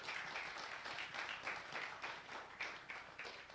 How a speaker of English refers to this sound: Thank you. Let's give our actors and actresses a clap.